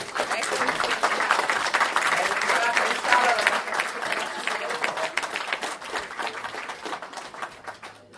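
Sustained applause from an audience, many hands clapping densely and steadily throughout, fairly loud, gradually tapering slightly toward the end.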